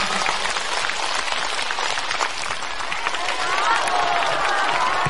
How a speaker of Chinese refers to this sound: 让我们再次以热烈的掌声感恩大慈大悲的观世音菩萨，感恩大慈大悲的卢军宏台长。